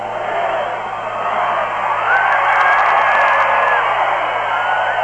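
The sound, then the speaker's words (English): The Middletown football crowd on the far sideline roars and cheers in the final seconds of the 1988 District 3 AAA championship game against Mannheim Central, a steady, dense wash of noise for about five seconds, swelling slightly midway, with scattered yells and whoops rising from the mass of voices. “if you can turn your microphone on over there, let's get the Middletown crowd on the far sideline.”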